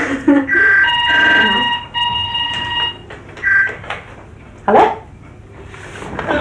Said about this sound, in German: Dreck, dieses blöde Telefon.